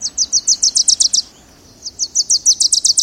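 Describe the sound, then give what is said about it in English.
A songbird sings two quick phrases of bright, high chirping notes that speed up into a rapid trill, separated by a brief pause. The song is clear, with no voices. “So, if you're a coffee drinker, and you choose to buy shade-grown coffee, you're helping to preserve the wintering grounds of this bird and many others.”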